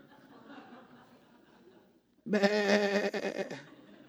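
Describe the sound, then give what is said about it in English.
A single loud, wavering sheep bleat rings out for about a second, following a stretch of faint, low murmuring background noise. “Bye-bye, sheep.”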